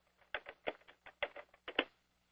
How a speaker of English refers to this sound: Sorry, before you continue, Madam Secretary, I can hear typing on the line. Could everyone who is not being called please mute their phone?